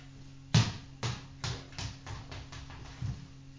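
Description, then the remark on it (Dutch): A ball bounces repeatedly, a quick run of thumps that start loud and come faster and softer as it settles. Clear, with a low steady hum behind it. “Laat je hem stuiteren.”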